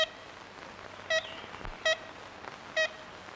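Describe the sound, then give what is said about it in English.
Ivory-billed woodpecker calls from an old field recording: three short, nasal, tin-horn toots, evenly spaced under a second apart, over a steady hiss of background noise. “Why did the ivory bill start to disappear?”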